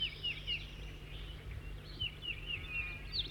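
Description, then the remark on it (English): A bird identified as 4-3 sings a series of short, high, thin chirps and trills in two bursts, fairly faint over a steady low hum, with no voices. “That's 4-3 in song now.”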